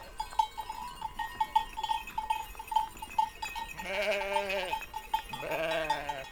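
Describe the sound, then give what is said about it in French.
Bells on a flock of ewes at the Ayushki fountain in the Basque Country clink and jingle steadily and irregularly, then two loud bleats ring out near the end over the continuing bells. “Fontaine d'Ayushki, au milieu d'un troupeau de brebis.”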